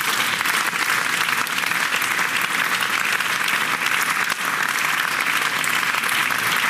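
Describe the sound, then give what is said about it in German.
Sustained audience applause, a dense steady wash of many hands clapping at even loudness throughout, with no voices standing out. “Applaus”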